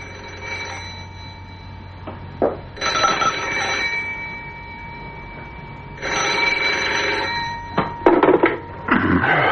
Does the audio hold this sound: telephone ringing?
yes